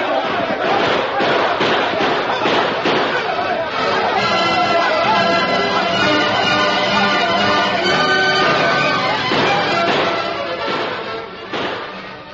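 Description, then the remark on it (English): Heavy gunfire crackles in dense, overlapping volleys as a sheriff's posse closes in on an outlaw gang at night, loud and continuous throughout, with shouting voices rising in the middle of the barrage and the shots echoing and re-echoing throughout a canyon. “As the sheriff's posse moved in to surround and capture the outlaw gang, heavy gunfire echoed and re-echoed throughout the canyon.”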